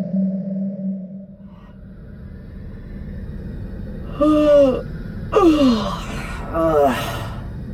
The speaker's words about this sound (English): Emery's prodigious yawn went unremarked by the rest of the universe.